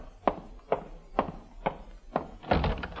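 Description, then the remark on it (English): Five firm knocks on a wooden front door of a house at a steady, deliberate pace, each a dull thunk, followed by a heavier rattling thump as the door is pulled open. “Oh, there's the front door now.”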